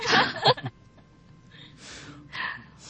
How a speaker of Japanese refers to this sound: ああ、なんかすげえ息切れしました、俺。